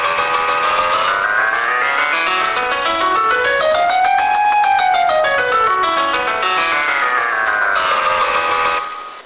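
A graph sonified with the sonification sandbox of the Georgia Tech Sonification Lab as a steady, buzzy synthetic tone whose pitch glides smoothly, dipping, climbing to a high peak midway, falling again, then rising until it cuts off. No one speaks.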